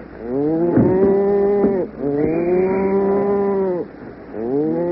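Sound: cattle mooing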